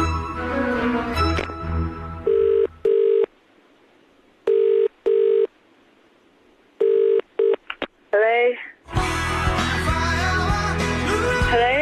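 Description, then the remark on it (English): A phone call rings out through the earpiece: three steady double-burst ringback tones with pauses between, then a brief electronic chirp as loud music bursts in. “So let's ring someone else and give them a sting ring, if you pardon the expression.”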